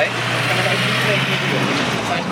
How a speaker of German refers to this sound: Immer wieder fahren Autos durch die Kundgebung in Richtung Betriebshof.